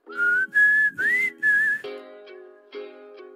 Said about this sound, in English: Oh, a whistle break.